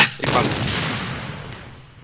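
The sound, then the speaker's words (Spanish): A loud gunshot cracks out sharply, followed by a long booming rumble that slowly fades over the next two seconds. No one speaks. “Suenan los disparos de la guapil y se oye un ruido del animal, pero es un ruido diferente al que producen los cabros.”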